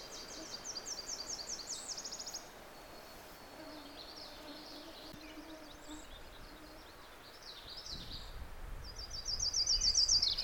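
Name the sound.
yellow-rumped warbler song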